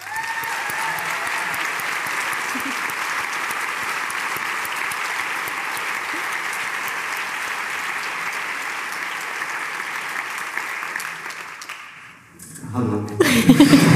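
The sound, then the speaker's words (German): Sustained audience applause, a dense, steady wash of many hands clapping for about twelve seconds before fading out, followed by a voice starting to speak. “Danke, dass ihr alle hier seid und danke für den Applaus.”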